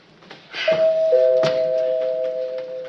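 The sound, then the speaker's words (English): A doorbell chimes in two notes, a higher ding followed by a lower dong, each ringing on and slowly fading. No one speaks. “I mean, really, all you have to do is walk over to the door, stick out your little hand, twist the knob, and open it up.”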